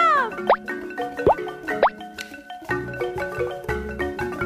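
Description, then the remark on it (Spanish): Three bright water-drop plops, each a quick upward-bending pitch, fall at uneven intervals over steady background music with sustained tones; no one speaks. “¡Y una gota, mamá!”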